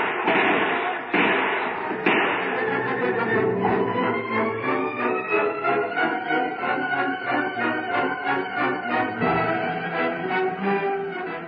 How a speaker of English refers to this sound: Shut the door. Shut the door behind me and lock it.